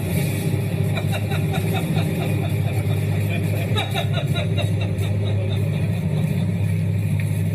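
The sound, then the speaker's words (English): A loud, steady engine drone with a deep low hum and constant rushing wind noise from a moving airplane in flight mid-air, as a man climbs out of the plane in a stunt, with faint indistinct voices underneath. “But recently, the 71-year-old tried out a very different kind of stunt: climbing out of a moving plane mid-air.”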